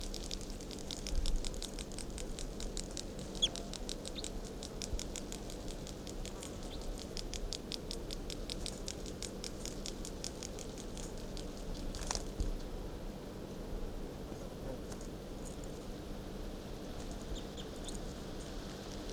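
bird song recording

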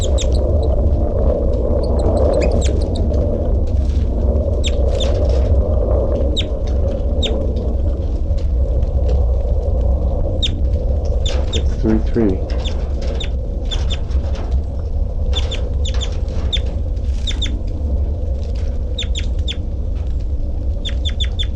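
bird calling

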